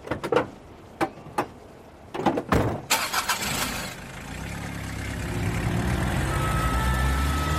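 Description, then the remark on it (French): A few sharp clunks, then a SAMU ambulance truck engine cranks and roars to life before settling into a steady rumble as the vehicle pulls away with a heart attack patient, heading to the emergency department of Pitié-Salpêtrière. No voices. “Ok, on le met dans le camion tout de suite.”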